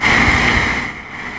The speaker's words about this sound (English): I want that sound of being out. It's a phone bed. And it's like a crying room. Windy outside. Wave after wave. Generic.